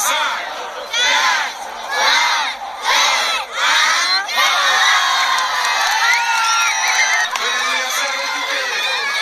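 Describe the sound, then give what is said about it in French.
A crowd of several hundred people at the outdoor inauguration of the Tour Paris-Plage, a revisited replica of the Eiffel Tower in Le Touquet, cheers and shouts together, rising in loud bursts of whoops and high excited voices, some sounding like children, then settling into a sustained, overlapping roar of chatter and calls. “Plusieurs centaines de personnes avaient fait le déplacement pour assister à l'inauguration de la Tour Paris-Plage, réplique et revisitée de la Tour Eiffel offerte par l'artiste touquetois Alain Godon.”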